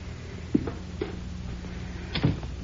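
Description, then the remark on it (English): A remote door release opens the front door: two sharp mechanical clicks followed by a louder rattling clunk of the latch, with no one talking. “That'll open the front door for him.”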